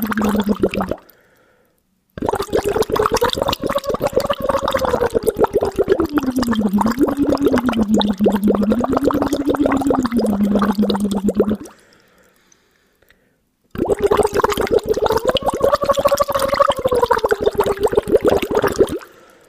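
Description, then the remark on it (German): As a voice exercise, a voice hums through a hose pushed into a small glass of water, making a steady rapid bubbling with some splashing as the pitch glides up and down, in three phonations: a brief one, then two long sliding ones with pauses between. “Jetzt schon automatisch den Schlauch ein bisschen weiter ins Wasser gegeben.”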